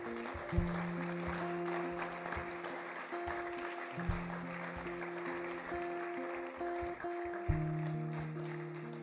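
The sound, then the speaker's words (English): Steady audience applause, a dense wash of many hands clapping, welcomes people coming to the front for prayer. It continues throughout beneath sustained musical chords that shift a few times. “Can I just say we're clapping hands because we're excited about what's happening right on the inside of you right now.”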